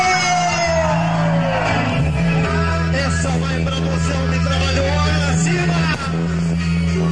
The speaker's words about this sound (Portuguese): Sabe, Santa Maria, você vai levar daqui verdadeiros amigos que ficaram encantados com o seu trabalho, com o trabalho dos tropeiros, e é esse povo feliz que vai gritar nesse momento, não gritou!